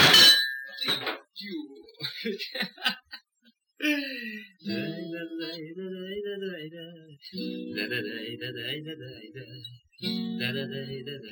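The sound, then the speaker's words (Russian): Plates and cutlery clatter and clink in a quick, busy burst, then voices start singing a tune while the dishes keep faintly rattling underneath. “Прах тарелки нет кроши, вилки гнет тупи ножи.”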